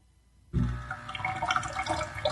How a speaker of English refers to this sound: And then we immediately put the next disc in there, close it, push the button, and there you go. So you see that it, the way that it makes coffee is really amazing because it's very quick. And now it's pouring a little bit.